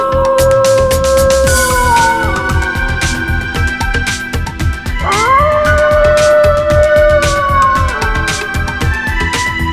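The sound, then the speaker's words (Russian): A drawn-out wolf howl rises in pitch midway and holds a long, wavering wail over a dense, pulsing background. It is loud, with no talking. “Он, глаза закрыв, заплакал и раздался вой.”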